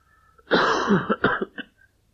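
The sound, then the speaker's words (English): A loud burst of coughing that breaks into throat clearing, a rough hacking run followed by a few shorter rasping clears, then quiet. “You'll get many coughs today.”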